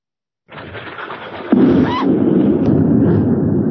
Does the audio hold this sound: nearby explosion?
yes